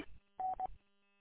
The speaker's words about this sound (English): you got a Roger beep turned on my mobile. Keep it up there. I was wondering, I kept hearing this beep, and I'll go in and see if I can get that turned off.